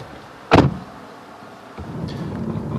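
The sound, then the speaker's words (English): A car door slams shut with a single solid thud, followed by a short quiet pause and then a low, steady engine rumble starting up. No voices. “Let's get in the car, shall we?”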